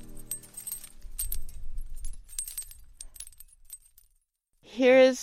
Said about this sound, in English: Isn't that wind chime pretty? All sorts of glass.